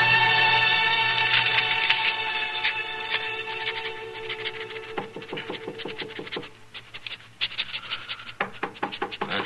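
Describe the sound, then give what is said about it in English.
A few sharp knocks rap on an office door in quick bursts, heard over a sustained musical tone that fades beneath them. “Well, folks don't usually bother to knock at this office.”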